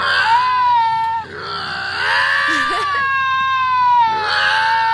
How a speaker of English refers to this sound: This guy was a fisherman and just walking. He saw these two giant cats. They're called lynxes, and they were just yelling and screaming at each other.